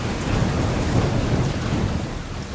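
Steady, heavy rain pours down with a deep rumble of thunder rolling underneath, a dense, continuous storm wash at fairly loud level with no voices, played as rain sounds from a bedside speaker.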